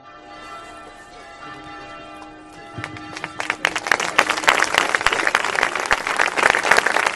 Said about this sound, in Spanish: Unos 500 vecinos se concentraban en el pueblo este domingo a las 8 de la tarde en la plaza para expresar su rechazo e indignación, guardando un minuto de silencio que acababa en aplausos.